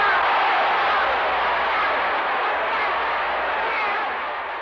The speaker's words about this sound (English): You'll hear then bedlam, just people shouting and yelling, and it goes on for several minutes like he'd hit a home run.